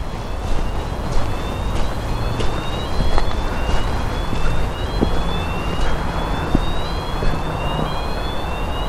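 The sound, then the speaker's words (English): A burglar alarm wails with a repeating rising tone, each high-pitched sweep climbing steadily before starting again, heard over a constant rumbling background of traffic noise. “If you can hear that alarm, some kind of alarm going up over there. Must be like a burglar alarm or something.”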